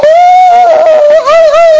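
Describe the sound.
A voice imitates a child's howling cry: one loud, sustained, high-pitched wail lasting nearly two seconds, its pitch wavering slightly toward the end.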